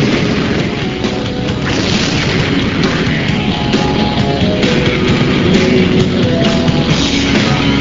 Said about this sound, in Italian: Questa è una miniatura, 1 a 9 il rapporto, l'esplosione è un'esplosione vera sulla miniatura, e ci sono poi aggiunti dei pezzi in 3D, particles in 3D per l'effetto che arricchiscono l'effetto dell'esplosione.